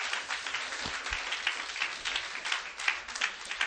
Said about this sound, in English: Come on, clap your hands.